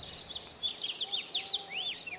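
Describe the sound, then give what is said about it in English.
Many birds call at once at Lower Klamath National Wildlife Refuge in a busy, overlapping chorus of high chirps and rising-falling whistles, fairly soft overall, with no voices present. “That sound of the birds does indeed linger.”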